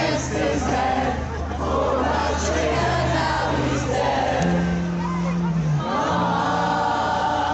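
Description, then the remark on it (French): A crowd sings together, heard up close so that only a few singers are picked out: a loud, continuous mass of ragged voices holding long, wavering notes that drift out of tune with one another, steady throughout with no pauses. “Bien, si on fait une petite expérience et qu'on se rapproche un petit peu pour écouter juste quelques personnes, ben ça sonne pas terrible.”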